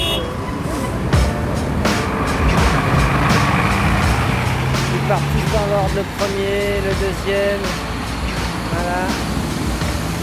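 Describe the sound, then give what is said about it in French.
A steady stream of buses and coaches rumbles past at Porte de Pantin, including line 13 to Nanterre, line 14 to Aulnay and Peugeot Citroën specials, with engine drone, brake squeals and hisses, and a murmur of voices in the background. “Bien ordonné de la noria des bus, des cars, la ligne 13 pour Nanterre, la ligne 14 pour Aulnay, porte de Pantin, spécial Peugeot Citroën.”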